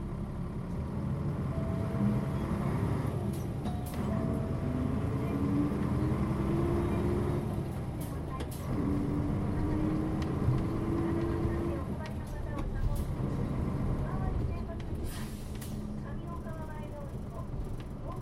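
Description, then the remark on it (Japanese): A bus departs and drives on, its engine rumbling steadily while rising whines mark it gaining speed through the gears, with faint voices murmuring in the background. “発車します。”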